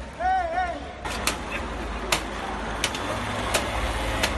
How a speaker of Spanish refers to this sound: El ruido del paraguas.